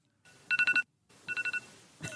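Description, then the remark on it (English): A phone alarm rings on a locked phone in two quick bursts of four sharp, high electronic beeps each, a brief gap between them, loud and insistent over a faint background hiss. “I hate that alarm, noise. Too. Hey, it's so jarring. It is the worst alarm noise.”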